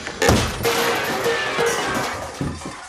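A heavy pan rack falls from the ceiling in a kitchen and crashes down with a sudden loud bang, followed by a sustained metallic clatter and ringing clangs of pans that fade slightly over a few seconds.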